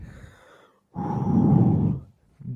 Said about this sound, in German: dieses Atmen, dieses schwere Atmen. Aber ist es dann dieses Atmen, wo du sagst, was mache ich eigentlich? Oder nice, dass ich es bis hierhin geschafft habe. Ist es eher so ein stolzer Atmer oder eher ein scheltender Atmer?